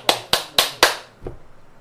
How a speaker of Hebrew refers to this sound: כשנמשכים החסדים והגבורות בהם, אז הם שמחים, אז מוחאים כפיים. כלומר, הצלחנו להעביר דרכנו את החסדים ואת הגבורות. אז אנחנו מוחאים כפיים. למה מוחאים כפיים עכשיו, הבנתם?